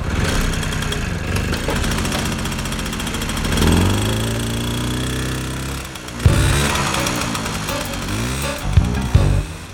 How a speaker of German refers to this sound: Der erste Detektiv sprang auf das Motorrad und preschte los.